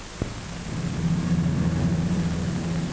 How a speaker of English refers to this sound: The mosquito taxis down the field, picks up speed, and lifts from the ground like a chip in the wind.